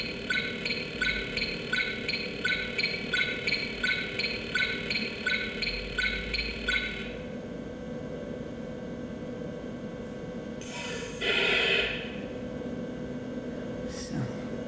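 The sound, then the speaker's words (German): Driving noise of a tank in a video game: a steady low mechanical rumble, with rapid rhythmic clanking pulses for the first half, then a brief hissing burst near the end. No one speaks. “Das ist jetzt der Panzer der Fahrt, ja? Das Fahrgeräusch.”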